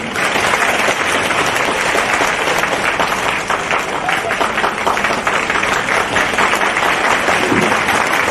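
An audience applauds steadily for about eight seconds, a dense, loud wash of many hands clapping at once that holds an even level throughout without fading.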